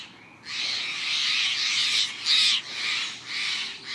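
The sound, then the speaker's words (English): A blue jay gives a run of loud, harsh alarm calls announcing the approach of a predator, raspy screeching notes repeated in quick succession with brief breaks between them, and no one speaking. “These daring blue dandies sound the alarm, announcing the approach of a predator.”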